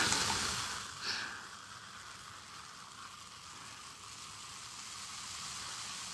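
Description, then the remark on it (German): Carbonated lemonade fizzes steadily in a glass, a dense, bright crackle of tiny popping bubbles that stays fairly constant, with a slightly louder burst near the start. “Sprudelt ganz schön.”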